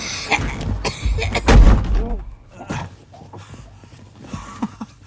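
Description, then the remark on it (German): A door is slammed shut once with a loud, heavy bang, followed by quieter shuffling and faint indistinct voices. “Und mach die Tür hinter dir zu, es zieht.”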